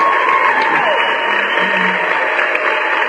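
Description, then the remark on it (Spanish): A studio audience applauds on a legal-advice radio programme for debtors, for a listener who won a book, in a dense, steady wash of clapping that stays loud and even for about three seconds, with no voices over it. “Aplausos nuevamente.”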